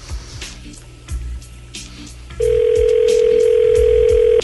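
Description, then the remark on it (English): A phone being dialed for a call to Placentia, California, with a quick series of clicks and short beeps, then a loud, steady ringing tone that holds for about two seconds. No one speaks. “you got some dialing music?”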